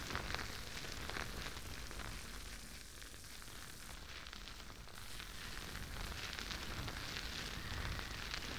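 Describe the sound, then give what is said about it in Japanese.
A steady, dense crackling fizz of soft, springy soap foam bubbling and popping on the surface of a small ear as it is cleaned, continuous and fairly loud throughout with fine crisp texture and no voices. “もちもちの泡だから、お耳の表面の汚れをしっかり吸着しています。”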